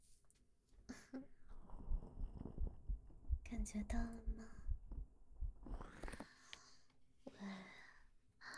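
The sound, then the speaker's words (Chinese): An older man's deep heartbeat thumps in a steady rhythm, muffled and bass-heavy, while a soft voice whispers over it. “大叔的心跳声，咚咚咚的，好响呢。你听，我的心跳也快了呢。”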